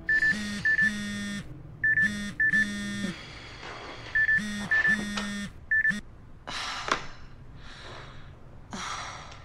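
A phone alert beeps loudly in quick pairs, repeating several times, waking a woman in bed, then stops and gives way to soft breathy sighs and rustling.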